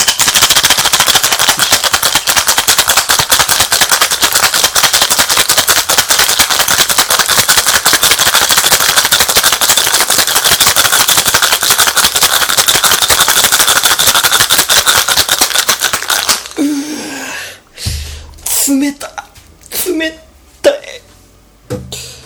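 Rapid, steady rattling of ice shaken hard about 40 times inside a metal (aluminium) cocktail shaker, a loud dense clatter for about sixteen seconds, then it stops and a few scattered clinks and knocks follow.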